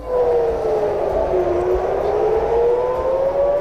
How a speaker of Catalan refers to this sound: Mentre estan continuant pendents de com evoluciona la guerra a l'Orient Mitjà, on aquesta matinada han tornat a sonar les sirenes.